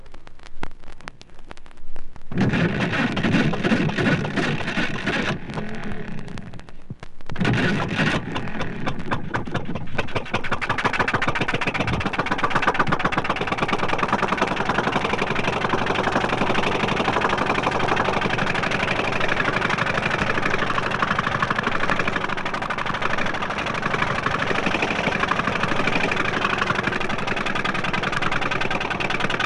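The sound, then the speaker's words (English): An old electric-start St. Lawrence inboard boat engine, 3 to 4 horsepower, built in Brockville, Ontario, of the kind used in disappearing propeller boats from 1946 to 1950, cranks to life, falters briefly, then settles into a loud, steady running drone with a rough, rhythmic chug. “From 1946 to 1950, Gravette Boats Limited used electric start St. Lawrences in all their DPs. Here's how they sounded.”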